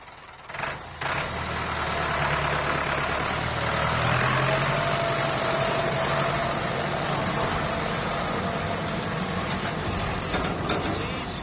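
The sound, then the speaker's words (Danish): A tractor engine idles steadily, a loud continuous low rumble with a droning hum, starting after a brief knock and running unchanged throughout without any voices. “Og der er en traktor.”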